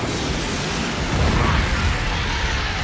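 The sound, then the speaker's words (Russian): A loud, roaring fire-magic explosion spell, cast at goblins crowded at a cave entrance, fills the whole moment: a dense rumbling whoosh with deep low-end boom that sustains steadily rather than fading, powerful, with no voices. “Огненный взрыв!”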